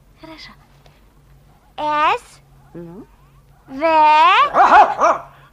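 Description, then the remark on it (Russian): A dog named Dingo, which has snatched two letter blocks, S and V, and won't give them back, whimpers in high, wavering whines, then lets out a couple of short barks and a longer, loud whining yelp, with brief pauses between outbursts. “Собака снова схватила С и В.”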